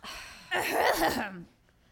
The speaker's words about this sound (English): Just clearing my throat. I did not realize that otherworldly entities even had throats.